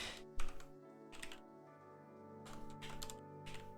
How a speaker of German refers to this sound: Alter, kann ich mal irgendwie bitte richtig tippen jetzt? Okay, Test, funktioniert sehr schön.